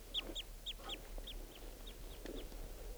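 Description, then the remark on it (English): A wild bird gives flight song and a rapid series of short, high, down-slurred flight calls, about four per second, while approaching a net area, fading gradually toward the end as it flies away, over a low background hum, with no one talking. “Flight song and flight calls, and he's approaching the net area.”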